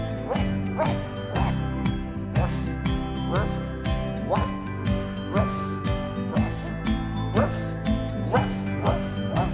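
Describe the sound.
Over a bouncy, steady music track, voices imitate a small dog's barking with a run of quick, rhythmic 'waf' yaps, one after another in time with the beat.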